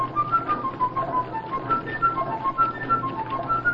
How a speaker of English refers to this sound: Blow your flute at me, will ya?